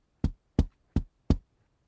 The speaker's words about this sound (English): Aaron knocked lightly on the cabinet door.